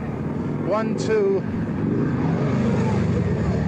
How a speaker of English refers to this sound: 1, 2, 3, 4 police on motor scooters. One demonstrator knocked down by a motor scooter policeman.